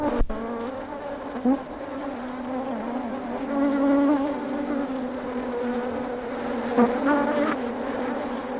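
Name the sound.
bees buzzing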